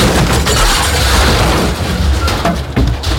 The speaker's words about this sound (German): Das hört sich nicht gut an für den alten Drucker.